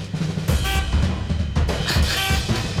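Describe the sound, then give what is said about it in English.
Several short, overlapping honks like car horns, made by instruments played by pumping air with a vacuum cleaner, sound in bursts over a dense, noisy wash, giving a busy, chaotic traffic feel with bright, reedy tones. “The car horns.”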